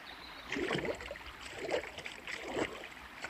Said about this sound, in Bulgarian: И лека по лека принцът нагазил буйния поток. Водата стигала чак до кръста му. Остри камъни го блъскали в краката, но той не се предавал.